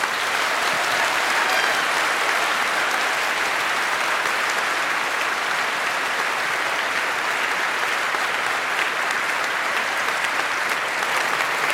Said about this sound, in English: But before that, give a huge applause